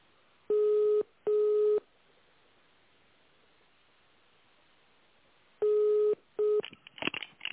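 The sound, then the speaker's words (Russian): Four short dual-pitch telephone keypad tones, dialing an employee's extension number at the automated phone menu of an Erenkart branch, sound in two pairs, steady and fairly loud, separated by a few seconds of quiet line hiss, ending with a brief crackly burst. “Для соединения с сотрудником наберите его добавочный номер.”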